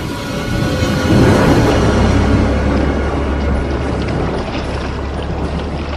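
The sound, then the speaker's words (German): A motorboat crossing over the water, its engine droning steadily with a low rumble while water rushes and churns around the hull, loud, with no voices. “machen Sie sofort ein Boot klar. Wir fahren rüber.”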